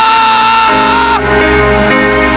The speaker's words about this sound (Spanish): Se oye un grito de júbilo.